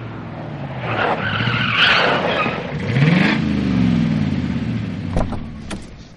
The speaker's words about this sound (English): Do you see that blue car coming here?